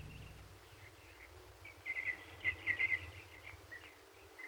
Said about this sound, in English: When I awoke, it was broad daylight, and the birds were singing in the trees below me.